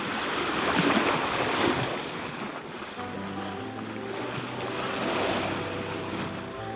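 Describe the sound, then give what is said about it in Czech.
A fast steamship, the Mongolia, ploughs at full steam through rolling waves of the Red Sea, a steady wash of water and wind joined midway by a low, droning engine hum. No one speaks. “A brzy na to plul rychlý parník plnou parou po vlnách Rudého moře.”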